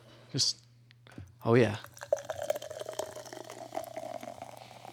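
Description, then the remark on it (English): Surge soda, a high-sugar, high-caffeine soda, pours into a glass with a steady fizzing trickle and faint crackle of bubbles, following a couple of short clunks and a brief burst of voice at the start. “Let's take a pour here.”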